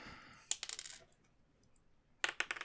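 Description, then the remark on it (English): A die rattles and clatters across a table and falls off it, in two quick bursts of sharp, rapid, fairly crisp clicks with a short quiet gap between them and no talking. “Oh, fell off the table. As I do. I like you using an actual dice and not like the random number generator in Excel.”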